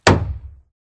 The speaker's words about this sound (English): Question two. Which of these hammer thwacks went wrong?